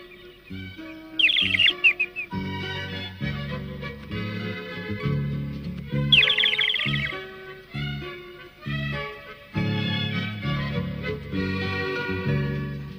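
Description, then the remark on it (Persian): Two short bursts of high, rapid chirping from a small bird being set free from a cage, like a small songbird trilling, rise over a steady backdrop of gentle, sustained music. “من تو رو آزاد میکنم پرنده کوچولو، شاید در جنوب جوجو کوچولوی منو ببینی.”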